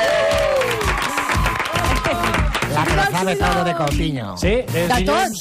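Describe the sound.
An audience on the TV show APM applauds Núria Casas loudly and steadily, with cheering and shouting voices mixed into the dense clapping throughout.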